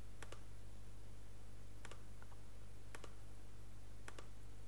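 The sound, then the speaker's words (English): Sharp mouse clicks come in quick pairs and small clusters, with a couple of lighter keyboard taps, as someone clicks through a website's IES Manager Permissions to add a user, over a steady low hum and no talking. “Now let's click on our website, click on IES Manager Permissions, and we add the user.”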